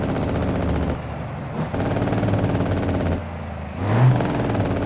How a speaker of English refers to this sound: I'm going to put it into gear, and I'm going to drive it. Put the jake brake on.